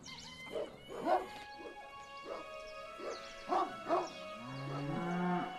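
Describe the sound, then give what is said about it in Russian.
A cow lets out a long, low moo near the end, following a run of sharp dog barks amid steady farmyard background noise. “Воистину смешались вместе люди, кони и коровы.”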